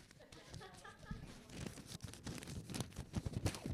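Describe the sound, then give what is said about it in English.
Thin onion-skin Bible pages being turned by a church audience during a sermon, a dense stretch of overlapping papery rustles and crinkles that builds in loudness, with a faint murmur of voices underneath. “I call them onion skins.”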